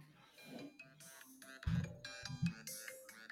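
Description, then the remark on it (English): A phone ringtone plays a bright, busy electronic tune of stacked, shifting tones, punctuated by two heavier low pulses partway through, with no talking over it. “So this is his ringtone.”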